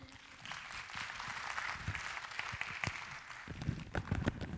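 An audience applauds to welcome a lecturer presenting a session on building cloud websites with Azure Website, a steady crackle of many hands clapping that runs throughout, with a few sharper, louder claps standing out toward the end. No one speaks.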